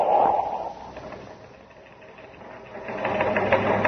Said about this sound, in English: It's coming over the teletype here in the newsroom of Terra's biggest newspaper, the Outer Space Dispatch. Here, I'll read it to you hot off the news tape.